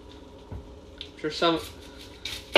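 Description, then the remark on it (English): A knife chops an onion on a cutting board in a handful of irregular knocks and scrapes, with a brief murmur of a voice partway through. “So we're gonna keep chopping just a minute because we're on our last onion.”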